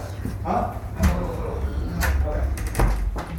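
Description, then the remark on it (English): A door is locked: a handful of sharp clunks and metallic rattles spaced about a second apart, over a steady low rumble with a faint voice in the background. “Wait, I just locked the door.”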